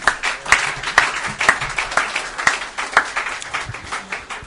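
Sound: audience clapping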